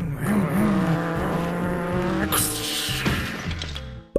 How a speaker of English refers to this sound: And to be honest, they're a little reckless. Popcorn people thought that they were basically invincible. Alright, let's race our cars into each other. Okay, sure.